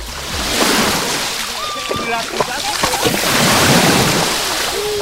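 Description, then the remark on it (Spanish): Soft, steady wash of small waves of the calm Mediterranean Sea lapping at the shoreline of the beach at La Guardia, a continuous gentle hiss with light splashes, while people's voices chatter faintly in the background. “el sonido de las olas del mar, iba a decir, bueno, de las olitas, porque el mar hoy está a plato aquí en la playa de La Guardia.”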